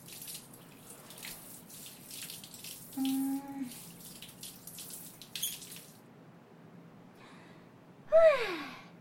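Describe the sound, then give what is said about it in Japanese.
Water runs and splashes steadily from a tap in a bath, with brief gushes and drips as soap suds are rinsed off a body and the soles of the feet, and a soft tonal squeak near the end over the ongoing flow. “体もしっかり泡残りがないようにと。足の裏の泡もちゃんと落として。”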